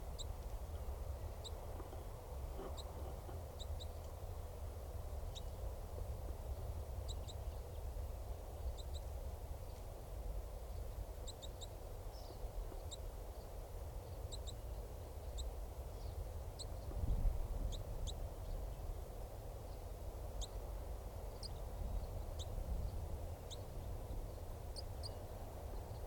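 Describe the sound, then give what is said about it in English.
A male bird gives a chittering call, a long series of short, high, sharp ticks in irregular bursts. The call stays fairly faint over a steady low rumble, and no one speaks. “And this is still that male. Giving chitter.”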